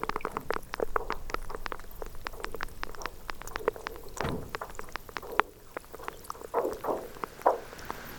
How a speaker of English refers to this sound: So all range of sound from sort of pitched material, again, the groaning, to these explosions when they break apart, and then the brash ice percolating away.